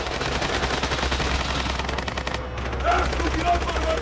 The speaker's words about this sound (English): The tank gunner fires a machine gun burst to the car's left and then to its right to get the car to stop.